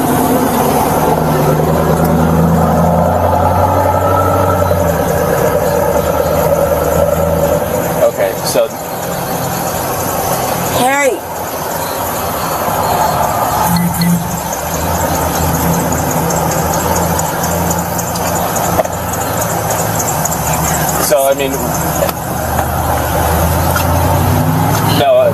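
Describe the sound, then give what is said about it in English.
A car engine idles steadily throughout, a constant low rumble, with muffled voices talking over it and a few brief knocks and rustles. “I mean, we could park the car here, but we can't leave the keys with it because we can't sit here and watch it, unfortunately.”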